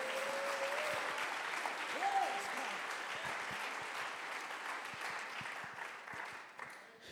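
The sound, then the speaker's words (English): A crowd applauds steadily for several seconds, a dense wash of many hands clapping at once, slowly tapering toward the end. “Somebody clap your hands right now.”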